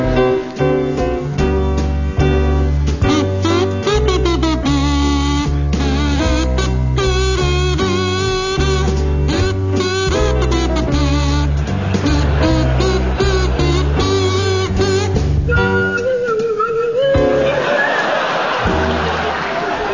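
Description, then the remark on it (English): A buzzy kazoo played by Tim Brooke-Taylor and a swooping swanee whistle played by Stephen Fry play the Christmas carol Ding Dong Merrily on High together, loud and continuous, with sliding, wobbly pitch glides toward the end. “Now, Tim and Stephen, your song is Ding Dong Merrily on High, and it's to feature Tim Brooke Taylor on kazoo and Stephen Fry on Swanee Whistle.”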